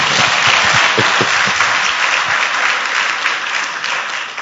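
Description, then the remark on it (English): An audience applauds steadily, a dense wash of many hands clapping at a fairly even loudness that tapers slightly toward the end, with no voices over it. “Okay, it's a good place to clap.”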